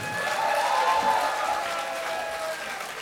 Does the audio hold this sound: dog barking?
no